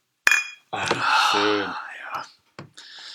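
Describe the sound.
Beer glasses clink together once in a toast at the start with a short bright ring, then breathy, whispery voices and soft murmuring follow.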